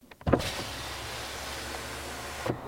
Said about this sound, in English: I'll ask him. I'll wind my window down and ask him.